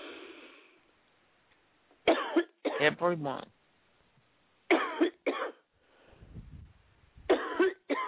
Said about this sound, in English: Take a deep cough and cough them out.